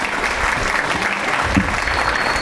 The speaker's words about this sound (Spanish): Ese es el número 2. Aplausos, compañeros y compañeras.